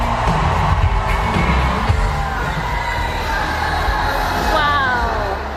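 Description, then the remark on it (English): A large crowd at a political rally in Raleigh, North Carolina, cheers and shouts continuously as a motorcade arrives, a dense roar of voices with scattered whoops and yells rising over it, loud and sustained throughout. “And a cheer coming up. I think as the crowd can tell that the motorcade has already arrived.”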